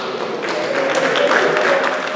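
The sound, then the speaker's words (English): A crowd in Johannesburg, South Africa claps and cheers steadily as the country's first coronavirus vaccines are administered, with dense applause and a few raised voices blending into a continuous, fairly loud wash of sound throughout. “Cheers and applause today in Johannesburg, South Africa, where the country's first coronavirus vaccines were administered.”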